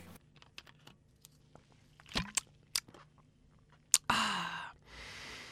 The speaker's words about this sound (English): Instead, I've gone for a German-style Pilsner beer. It's called Korvev, which is brewed by the Cornish brewer St. Austell. Okay, so before we go any further, let's open up and have a little taste of this beer.